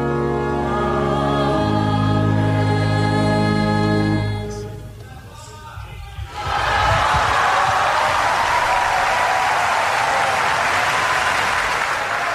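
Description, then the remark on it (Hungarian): A sustained musical chord fades out, and after a brief hush a loud, dense storm of applause from a large crowd erupts, greeting the Pope's catechesis, and continues steadily to the end. “Kedves Mária Rádió hallgatók, a szokott módon tapsviharral köszöntik a Szent Atya mai katekézisét.”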